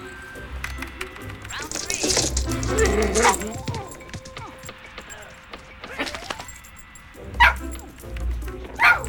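Dogs bark and yip in scattered bursts, mixed with high, thin whimpers, over a steady low background rumble; a loud cluster of barks near the start and sharper yelps toward the end.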